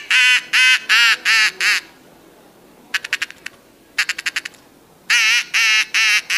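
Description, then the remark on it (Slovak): A person imitates the calm calls of a duck with soft, evenly spaced quacking calls, several short bursts in a row, then quick rapid clicking pulses, then more steady quacks, clear with no talking. “Takisto to môžem podporiť tým, že teda imitujem kľudové hlasy. Hej, viem si kačičku urobiť takto.”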